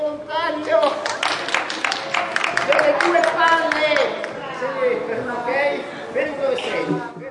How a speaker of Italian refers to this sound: E questo era lo spettacolo dei burattini. I bambini applaudino felici, quindi sembrano apprezzare.